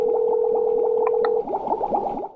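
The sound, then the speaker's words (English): Rapid, steady bubbling gurgle of water drawn through a bubble pipe as someone takes a hit from it, fairly loud, lasting a couple of seconds with a faint steady hum underneath for the first half. “Let me take a hit off this real quick.”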